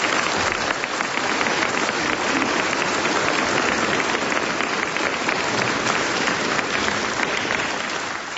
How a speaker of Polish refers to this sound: Wielkie oklaski dla młodzieży za to przedstawienie.